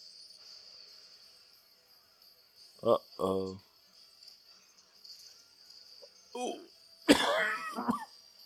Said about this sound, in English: Sorry for the cough. Allergies are kicking me. I'm sorry.